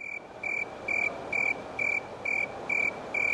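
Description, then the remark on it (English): A snowy tree cricket chirps in a steady, even rhythm, about eight clear, high-pitched trills in a row, set against a soft background hiss with no voices. “That's called the snowy tree cricket.”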